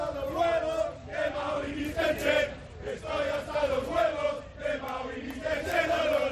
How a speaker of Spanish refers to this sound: Por cierto, este es el grito de la afición del Español.